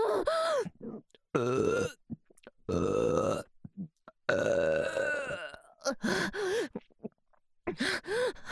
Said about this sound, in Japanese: 乳首乳首乳首乳首ゲップ最高。